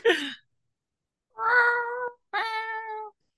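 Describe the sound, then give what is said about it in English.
A person does a voice imitation of a cat, giving three meows: a short, breathy one, then two longer, drawn-out, tonal meows after a pause. They are fairly loud, with no talking. “I'll just meow again to clean my palate.”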